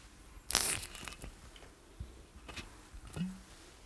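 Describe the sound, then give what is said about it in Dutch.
A bottle of Jack Daniels whisky is opened: a sharp tearing crackle of the seal, a few small clicks and rustles, then a brief squeaky pop as the stopper comes free. No one speaks. “Wil jij hem openmaken voor de...”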